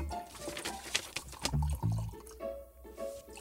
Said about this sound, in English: Go on, shall I have another Debonair? Shall I pour us one? Please be careful. Ooh.